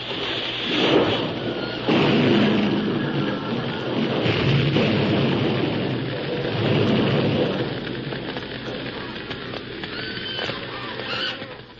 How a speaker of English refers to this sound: Looked up to see the flaming roof about to crash upon them.